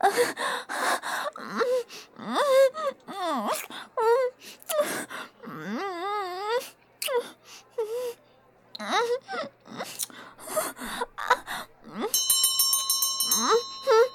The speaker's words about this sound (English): Shit! That was the first bell.